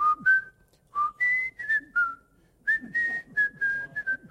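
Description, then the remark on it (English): A person whistles the marching theme from the movie Bridge Over the River Kwai, clear and fairly loud, with short phrases of held and sliding notes separated by brief breaths, and no talking. “I can whistle pretty good, can't I?”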